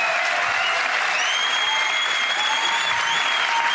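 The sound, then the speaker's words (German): Steady, dense audience applause fills the whole stretch, a continuous loud wash of many hands clapping with a few faint whoops or cheers riding above it. “Auch nochmal Applaus für den Muslim Podcast.”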